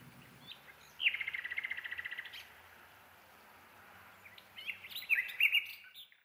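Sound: nightingale singing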